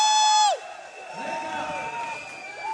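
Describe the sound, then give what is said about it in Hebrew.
An audience at a live broadcast event with artists performing for children cheers and whoops in a steady, moderately loud wash of crowd noise, with excited voices rising and falling through it after a brief sustained high tone at the start. “איפה מחיאות הכפיים של כולם, רבותיי?”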